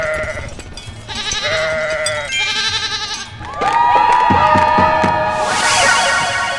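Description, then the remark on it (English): Several loud, wavering goat bleats overlap one another in a dense burst, mixed with other farm animal calls, with no one talking. “Where's the goat? I heard it, but now I don't.”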